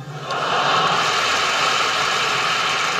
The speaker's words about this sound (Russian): А где ты? Я в пробке.